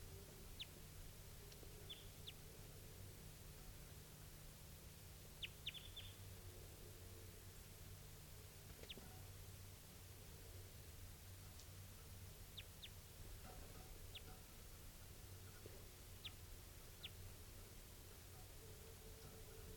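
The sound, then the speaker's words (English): Short, high-pitched chips of a wild bird of call type 2 ring out at irregular intervals, sometimes in quick pairs, over a steady bed of hiss and low hum. The calls are faint, and no one speaks. “So recording, here's that same type 2 bird, wild bird.”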